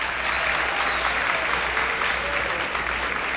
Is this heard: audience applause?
yes